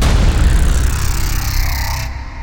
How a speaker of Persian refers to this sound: صدای رگبار کوتاهی اومد و دیگه صدای اون زن رو نشنیدم.